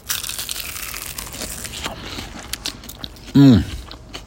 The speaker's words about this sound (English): And one bite will send you to heaven, just because I love the sound of the crunch on radio. Sorry, chef, I'm going to eat before you here. Yeah, so this is the wing, and here's how it sounds when you bite in.